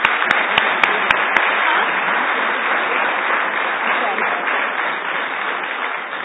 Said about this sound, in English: Please give her a round of applause.